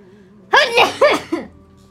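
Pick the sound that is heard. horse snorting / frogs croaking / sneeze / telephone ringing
sneeze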